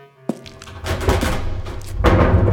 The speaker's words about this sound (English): King John waited until the doors had closed behind Harold, and then turned to stare steadily at Julia.